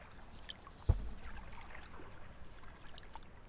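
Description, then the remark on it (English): A small boat moves through water with steady sloshing and lapping, broken early on by a single hollow knock against the hull. No one speaks. “This boat is going to sink with the amount of beers in here.”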